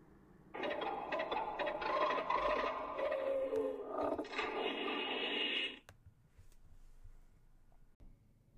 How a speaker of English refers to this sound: And both of the Mutos emit distinctive chirps and clicks when they rub their snouts together as a courtship greeting.